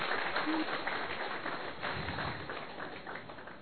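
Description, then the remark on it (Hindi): An audience applauds steadily to welcome a guest onto the stage at a panel discussion, a dense wash of many hands clapping that holds moderately loud throughout and tapers slightly toward the end, with no voices heard. “तालियों में बहुत कमी नजर आ रही है।”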